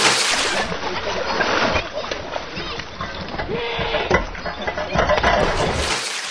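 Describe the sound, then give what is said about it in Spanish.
Children play noisily in water, with continuous splashing and sloshing mixed with their shouts and chatter, a busy scene that stays loud throughout. “Niños en el agua que hacían mucha bulla.”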